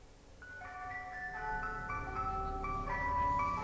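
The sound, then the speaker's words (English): A tinkling ice cream truck jingle plays a bright, looping melody over a low engine rumble, growing slightly louder as if approaching, with no one talking. “I mean, who doesn't love the sound of an ice cream truck unless it's the middle of the night and, again, you're by yourself and you hear this sound?”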